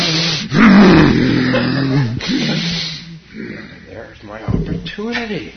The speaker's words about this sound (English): There's my opportunity to forget the self and be actualized by his breathing. Right? It's the breathing of the Breathing of a 19-year-old cat who's trying to get up the stairs. Can't make it up one, whatever you call it.